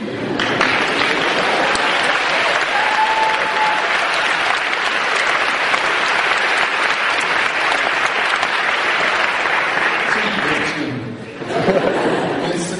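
audience applause

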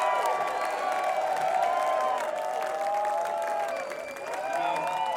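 audience applause and cheering

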